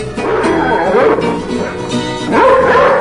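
A dog barks and yips repeatedly, its loud, strained cries rising and falling in pitch, with a louder burst near the end and no talking.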